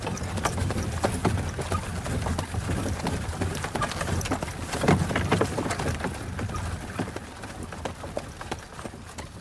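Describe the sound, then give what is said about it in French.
The hooves of two horses clatter in a busy, fairly steady rhythm over a rough, noisy background, easing off toward the end as the horses come to a stop in front of a door in Paris. No voices are heard. “Avez-vous vu les chevaux qui viennent de s'arrêter devant ma porte, Monsieur Bertuccio?”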